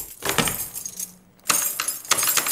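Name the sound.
keys jangling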